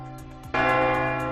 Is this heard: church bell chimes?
yes